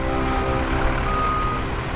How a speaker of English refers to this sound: We are moving into the trailer park. Beep, beep, beep.